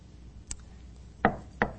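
Knocking on a hollow wooden surface: a light tap, then two firm, resonant knocks in quick succession, close and fairly loud, with no voices.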